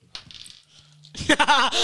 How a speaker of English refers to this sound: Here, roll the dice.